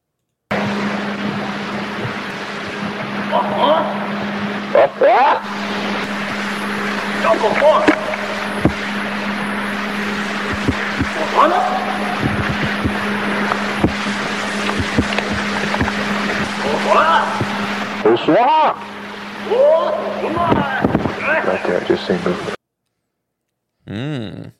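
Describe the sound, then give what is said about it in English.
Rapid, garbled 'samurai chatter' vocalizations from the famous Sierra Sounds recording, rising and falling in pitch in bursts, over a steady low hum and hiss of an old recording that cuts off abruptly near the end. “Is that the famous Sierra sounds? It is.”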